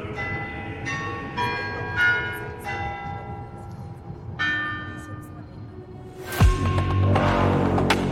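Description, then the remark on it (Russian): The Moscow Kremlin clock tower chimes ring out a slow hymn melody, one resonant bell note at a time with long ringing tails over a low rumble, before a louder, washy surge of sound near the end. “куранты Московского Кремля исполняли звон, мелодию «Коль славен Господь сегодня»”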